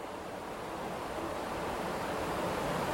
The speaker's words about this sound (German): Der Wind frischt auf, und du spürst eine wohltuende Frische in der Luft.